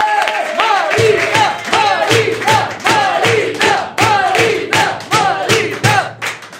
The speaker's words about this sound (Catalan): Rebem un fort aplaudiment a …!